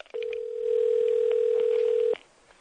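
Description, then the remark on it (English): A telephone dial tone as a prank call is placed to check whether the meat is ready: one steady, unbroken hum that holds at an even level for about two seconds and then cuts off abruptly. No keypad beeps or voices are heard. “Let's call Fanny real quick, see if the meat's ready.”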